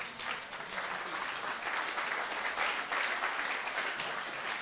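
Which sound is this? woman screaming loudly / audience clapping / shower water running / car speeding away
audience clapping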